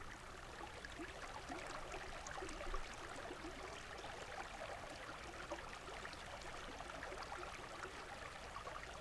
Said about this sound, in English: First, it is only water sound. Then, the very voice. And then, only water sound.